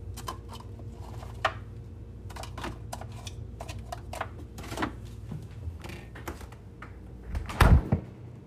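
A home fridge door opens, then items inside clink, tap and shuffle as they are moved around, in a scattered series of sharp clicks over a steady low hum, ending with a louder thud as the door shuts. No one speaks.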